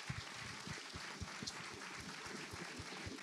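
An audience claps steadily for a panel speaker's vulnerability, a dense, even patter of many hands with no voices rising above it, fairly soft overall.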